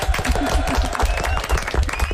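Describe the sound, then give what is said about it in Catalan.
A small group claps together in loud applause, the claps blurring into a steady patter with a few voices mixed underneath, applauding after imitations of characters done with gestures and sounds. “Aplaudiment.”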